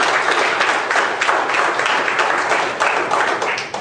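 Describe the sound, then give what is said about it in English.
A crowd applauds steadily, dense overlapping claps forming a loud, continuous wash of noise that holds for several seconds, with no voices over it. “Give me one more hand of applause.”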